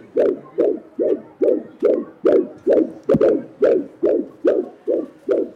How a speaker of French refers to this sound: Laissez-moi vous faire entendre l'enregistrement sur magnétophone des battements de cœur d'un fœtus de 8 semaines et 2 jours.